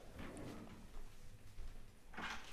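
A door opens quietly at a distance, with a soft latch click near the start, a low rumble as it swings, and a brief scuffing rustle near the end.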